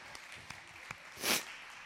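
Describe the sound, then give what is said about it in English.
An audience clapping during a sermon: a few sharp, scattered claps at a slow, uneven pace, then a brief, louder flurry of applause that quickly fades, with no talking. “Somebody's clapping. Somebody's excited.”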